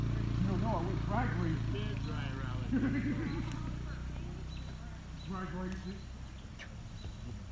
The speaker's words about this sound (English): Horses. What the heck?